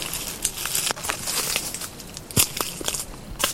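Dry dead leaves crackle and crunch underfoot in a steady stream of brittle rustling, with a few sharper, louder crunches breaking through at irregular moments, in Mediterranean-like scrubland at the foot of the Pyrenees. No voices.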